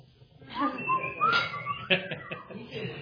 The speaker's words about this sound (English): And you know, the best we can do is whistle.